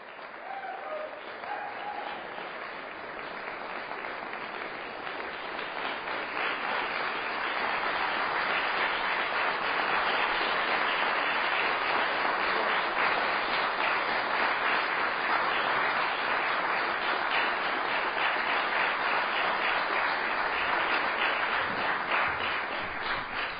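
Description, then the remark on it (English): An audience applauds steadily after a piano performance by a pianist, the clapping beginning moderately and swelling into a dense, sustained ovation that holds strong for over twenty seconds without any talk. “So we'll just go back to, I don't know, where we left off with the applause and stuff.”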